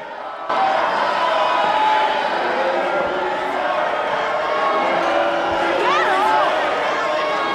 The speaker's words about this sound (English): She slowly approaches the microphone, overwhelmed by the aggressive crowd.